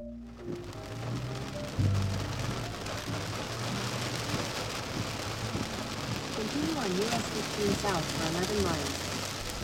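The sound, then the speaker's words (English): Steady heavy rain on a Sunday morning, during a drive to Pittsboro, North Carolina, hisses across the whole scene at an even intensity, with some low rumbling and a murmuring voice partway through, half-buried under the downpour. “So, on a really rainy Sunday morning, I made the 35-minute drive from Duke's campus down to Pittsboro, North Carolina, specifically to see the Haw River.”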